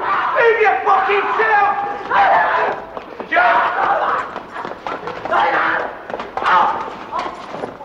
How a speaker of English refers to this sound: They restrain the screaming boy and drag him off.